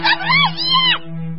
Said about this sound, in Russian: Наконец, ежик зажмурился и выстрелил наугад. Раздался крик.